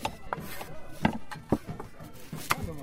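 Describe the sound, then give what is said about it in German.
Sharp, irregular chopping knocks of historical knives cutting through carrots and other root vegetables on a wooden board, several crisp thuds spaced unevenly over a soft background murmur. “Gleich nebenan sind einige fleißige Hände damit beschäftigt, tatsächlich mit historischen Messern, Möhren und anderem Wurzelgemüse zu Leibe zu rücken.”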